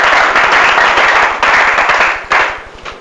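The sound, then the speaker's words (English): A crowd breaks into loud, sustained applause, dense overlapping claps swelling briefly a couple of times before starting to taper off; the applause is a clap offering given to Jesus. “Give Jesus a clap offering.”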